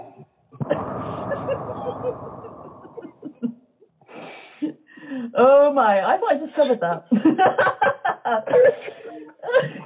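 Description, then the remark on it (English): A voice imitates a long, heavy, muffled breath, as if through a mask, lasting a couple of seconds, followed by a person talking with bits of laughter. “I appreciate the attempt at the heavy breathing, though. That did sound like you had a mask on, yes.”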